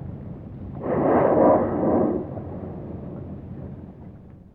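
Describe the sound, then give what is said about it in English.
A single powerful whoosh of breath from a whale's blowhole on Prince William Sound, Alaska, its plume about 10 feet high, a broad rushing burst lasting about a second and a half before trailing off into a low, steady rumble. “And the blowing of the whale, when it comes, is an ancient sound.”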